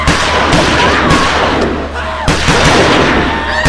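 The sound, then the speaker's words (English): Sharp bursts of gunfire, fired into a crowd, crack through a thick, constant roar of noise, with several loud shots standing out over the din and indistinct voices mixed in. “Fire into the crowd.”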